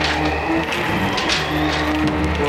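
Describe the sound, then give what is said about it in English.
A chain drags and scrapes over stair steps in a steady, unbroken rattle over a low droning hum, with a few sharper metallic clinks standing out. No voices are heard. “Someone's on the stair. Someone's dragging a chain.”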